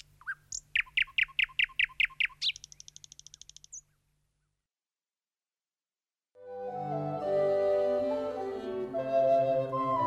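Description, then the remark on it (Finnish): A thrush nightingale sings: a quick run of about ten loud, repeated chirping notes ending in a buzzy trill. After a few seconds of silence, music begins. “Satakieli siellä laulaa riemuaan läpi yön, eikä aurinko laske ollenkaan.”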